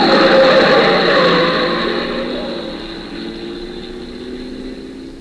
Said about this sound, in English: You're crossing the street now on your way to Jane's. The lights are dim, the corner sharp, a car is coming fast, it turns, you don't see it.